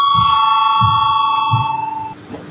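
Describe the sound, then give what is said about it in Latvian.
A parliamentary voting bell rings continuously for about two seconds, calling a vote on amendment 208 proposed by deputy Kucins, a bright sustained tone with a rapid metallic pulsing, then cuts off abruptly. No one speaks over it. “Lūdzu zvanu, balsosim par 208. deputāta Kucina priekšlikumu.”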